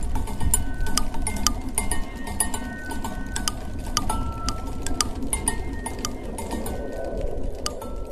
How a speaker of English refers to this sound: It looks like over 300 pinwheels, customized pinwheels. Each pinwheel is turning and hitting an object. Some students put connected little bells to it so they kind of jangle in the wind.